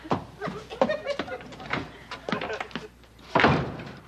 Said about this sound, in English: You suppose she knows she just slammed herself into the storeroom?